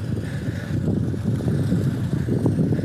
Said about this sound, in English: That's such an annoyingly loud car. I'm really sorry about this. Again, winging it in the moment here without my equipment. Okay, he turned off the engine.